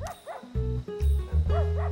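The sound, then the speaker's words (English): A dog gives a few short, high-pitched barks, two near the start and two near the end, over a steady low droning tone with no talking. “Like, dogs. Right? I love dogs.”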